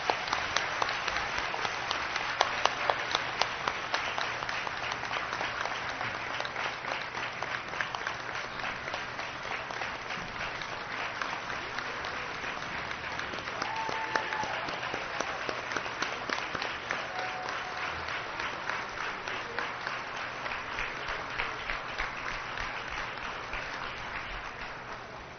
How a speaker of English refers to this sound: Can we have a round of applause for all our tenure awardees?